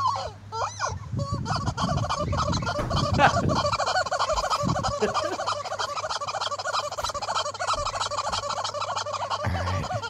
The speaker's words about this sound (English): What's it got in its mouth? What do you got there? He's got a chicken.